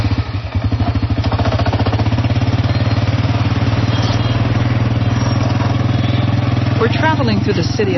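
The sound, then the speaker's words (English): A tuk-tuk, a covered cart pulled by a motor scooter, putters loudly and steadily with a rapid rhythmic chugging amid busy street traffic of tuk-tuks and motorbikes in Cambodia; a voice talks faintly beneath it near the end. “in a covered cart pulled by a motor scooter. A tuk-tuk, named for its sound.”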